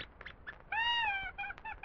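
puppy whimpering

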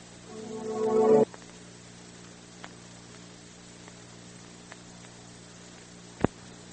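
washing machine running

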